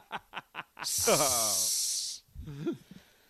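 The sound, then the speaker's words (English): A person imitates a snake with a loud, sustained hiss lasting over a second, preceded by a few short breathy snickers and followed by a brief voiced laugh. “Snake.”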